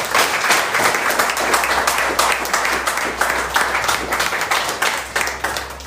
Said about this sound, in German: darf ich einen Applaus geben? Bitte gern.